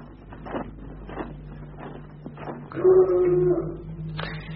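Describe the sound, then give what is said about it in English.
A dog whimpers with a drawn-out, wavering whine in the middle, preceded by a few soft, brief sounds over a low steady hum in the background. “That dog again. Gives me the jitters.”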